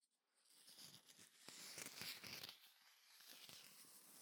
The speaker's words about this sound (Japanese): 今回出したお茶菓子、ふやきせんべいというものです。おせんべいの音。